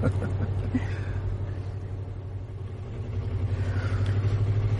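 A car's engine rumbles steadily from inside the vehicle, a low continuous drone with road noise that swells slightly toward the end, no talking over it.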